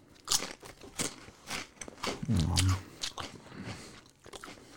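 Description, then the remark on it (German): A spicy crunchy snack, taken out one piece at a time, being bitten and chewed: a string of sharp, crackling crunches in an irregular rhythm, with one louder, longer munch in the middle. No talking. “Und für alle Hater, die es nicht mögen, wenn wir einen Podcast essen, haltet eure Fresse.”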